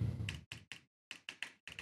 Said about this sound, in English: picks up the keyboard real loud. I guess it's kind of loud, but okay.